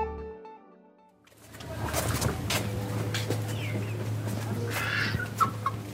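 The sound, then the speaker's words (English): Chickens and ducks cluck and call in a small enclosure in a garden in the north of the Gaza Strip, over a steady low hum, with scattered squawks and short bird calls and no talking. “Chickens and ducks run around in a small enclosure.”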